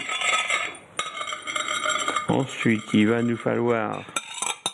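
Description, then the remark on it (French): A utensil stirs and scrapes butter melting in a saucepan over low heat, with light metallic clinks and a steady soft background hiss. A voice is briefly heard partway through. “On commence par faire fondre le beurre dans une casserole à feu doux.”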